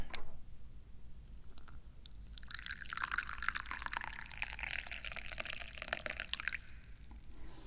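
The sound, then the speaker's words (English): Tea pours steadily into a teacup for several seconds, a bright gurgling splash that rises in pitch as it fills, preceded by a couple of small clinks, clear with no talking. “And I guess that just means I need to pour some tea.”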